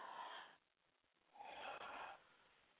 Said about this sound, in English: So I'm going to ask everyone, because this is going to be a hot topic. We're going to need a lot of oxygen in our lungs. So let's take a deep breath.